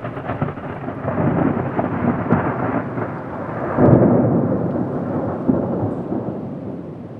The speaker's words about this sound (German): Da blitzt und donnert es. »Jetzt fängt es auch noch an zu gewittern«